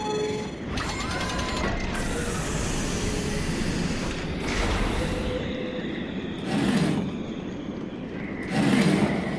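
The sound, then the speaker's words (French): A heavy hangar door rumbles open with a steady mechanical grinding and rattling, punctuated by louder clanking surges every couple of seconds, with no voices. “J'ouvre la porte du hangar.”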